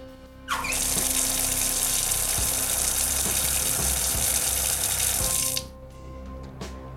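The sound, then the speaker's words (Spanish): A tap gushes steadily for about five seconds, a loud, continuous rush of water that starts abruptly and cuts off, leaving quiet with faint clicks afterward. “mira, me ha salido el agua que no veas,”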